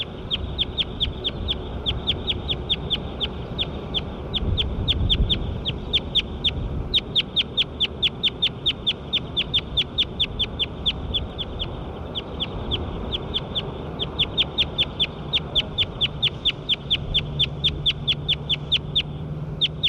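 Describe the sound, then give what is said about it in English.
A recorded bird, labelled bird 9, calls in a steady, rapid series of short, high-pitched notes, roughly three per second, continuing without pause over a low background rumble. No one speaks. “Start recording bird 9 again.”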